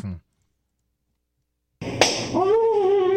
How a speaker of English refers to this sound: That's …. Getting slapped in the face.